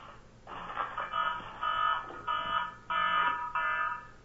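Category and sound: signal or alarm, mobile phone ringing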